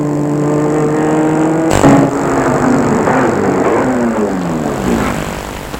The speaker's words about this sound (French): Ils arrivent boulevard Haussmann. Nous sommes arrivés. Il va garer sa voiture devant son immeuble que vous connaissez.